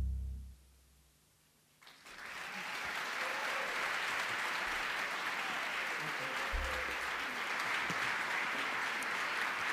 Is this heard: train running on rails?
no